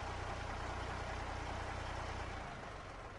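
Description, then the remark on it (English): A heavy lorry engine rumbles and idles steadily under a broad, hissing noise after the lorry slows and stops where a policeman holds up his hand, its deep low throb falling away near the end. No one speaks. “Peter slowed the lorry down and stopped.”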